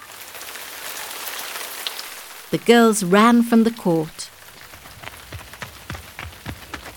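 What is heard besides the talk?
rain falling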